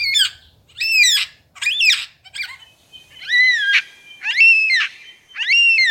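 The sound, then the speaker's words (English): A superb lyrebird mimicking a yellow-tailed black cockatoo: a series of about seven loud, drawn-out, wailing screeches, each rising then falling, repeated steadily with short gaps and no other voices. “Here's his impression of a yellow-tailed black cockatoo.”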